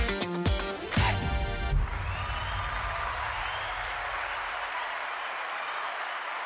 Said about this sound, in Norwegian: Tusen hjertelig takk for den fantastiske applausen, og hjertelig velkommen til denne aller første episoden av Liv Laga.